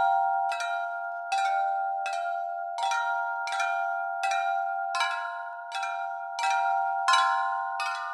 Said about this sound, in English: So let's talk about a couple of these instruments. One of them is like a xylophone, and it sounds kind of like bells. Let's listen to a little bit of that.